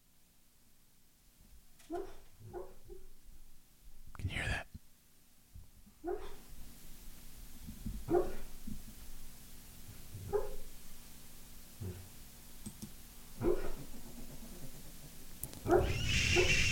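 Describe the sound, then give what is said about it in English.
A sleeping dog named O'Neill lets out soft, high chirps and yips while dreaming, his legs moving, around eight or nine brief squeaks at irregular intervals, with a person speaking briefly at one point. “He's having a dream right now, and he's chirping.”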